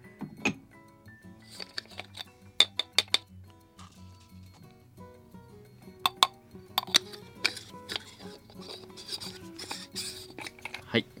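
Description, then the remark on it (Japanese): Coffee grounds (25 g) being added to a dripper lined with Kalita Wave filter paper, leveled, and the dripper set down on a glass server for brewing: a series of sharp glassy clinks and taps in small clusters, over a soft, steady tonal background. “ドリッパーの中にコーヒーの粉を入れました。そして今平らにしてから抽出するガラスサーバー上にこうドリッパーを設置しました。”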